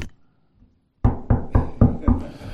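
Five firm knocks on a wooden podium in a steady, even rhythm, loud, following a brief quiet pause with no talking.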